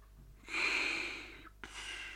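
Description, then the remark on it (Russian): A man sleeping on a couch in a drawing room, his head on a gold-embroidered silk pillow, snores: a long, raspy, hissing breath followed by the start of another, fairly loud, with no talking. “Храпел он.”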